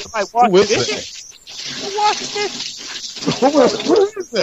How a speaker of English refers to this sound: Somebody just washed out. Somebody just washed out a bowl